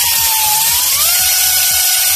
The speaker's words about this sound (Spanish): Es el sonido de las motosierras de los brigadistas que realizan líneas de defensa para controlar el fuego.